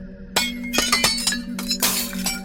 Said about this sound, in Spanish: Entonces se escuchó que se quebró algo adentro de la casa. Algo de vidrio.